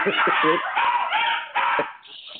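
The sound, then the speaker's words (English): A dog barks in a rapid series of short, high-pitched yips mixed with whiny whimpers, fairly loud and steady for a couple of seconds before trailing off. “Mine will probably start barking in a minute, too.”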